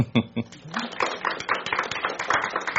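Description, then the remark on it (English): A brief voice gives way to a crowd breaking into steady applause for fathers standing up on Father's Day, a dense patter of many hands clapping that holds at a moderate level for a couple of seconds. “So can I ask those fathers to stand up so we can give them applause?”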